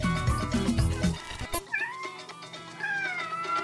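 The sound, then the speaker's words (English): Max, a pet cat, meows, giving a couple of drawn-out, wavering cries after a brief burst of low background sound. No one speaks. “That's my kitty cat, Max,”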